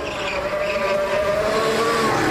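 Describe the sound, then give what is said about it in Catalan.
A Formula 1 racing car's engine screams steadily higher as it accelerates hard out of the pits during a race, a loud, continuous whine with rising harmonic tones and a rough mechanical roar beneath, no voices present. “Surt disparat com una fletxa per intentar recuperar el temps perdut amb un nou líder de cursa.”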